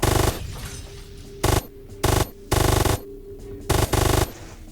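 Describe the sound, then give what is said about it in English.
Video game gunfire crackles in five or six loud, rapid bursts separated by short pauses as drones are shot, over a steady mechanical droning hum of a helicopter engine, with a helicopter exploding; no one speaks. “The helicopter explosion doesn't sound very realistic, but we can deal with it.”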